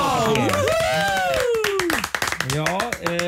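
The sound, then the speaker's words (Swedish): A short burst of hand clapping from a few people in the Rix Morgonsop radio studio, as the applause button is out of order, quick and uneven, with voices whooping and calling out over the claps throughout. “Jag tycker vi är värda en liten applåd idag.”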